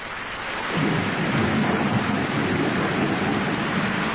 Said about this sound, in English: I ran through the rain.